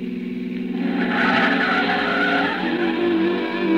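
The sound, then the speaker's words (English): An old pre-war car swings through a right turn, its tires squealing loudly over a steady, rumbling engine drone, continuous for a few seconds with no one speaking. “It's an old car, pre-war. It sounded like it was splitting at the seams.”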